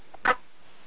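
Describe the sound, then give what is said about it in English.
A single quick, sharp sneeze during a guided long deep breathing exercise bursts out after a faint catch of breath, loud and brief against an otherwise quiet background with no talking. “Bless you.”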